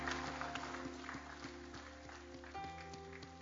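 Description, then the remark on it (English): An audience claps along in a steady rhythm for people coming up to the front to pray, a dense wash of hands over sustained organ-like chords, moderately loud and continuous throughout. “Can we give these folks a big hand clap as they're coming?”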